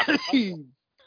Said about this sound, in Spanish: Estaba muteado por intentar evitaros el sonido absurdo de mi tos.